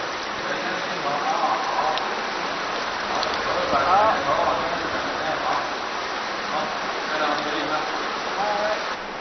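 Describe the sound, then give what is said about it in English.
Steady trickling and dripping water in a cave fills the space, a dense, even wash of splashes and drops that continues throughout, with a voice faintly speaking underneath. “Fed by countless drips and trickles, the subterranean river carves ever deeper into the rock.”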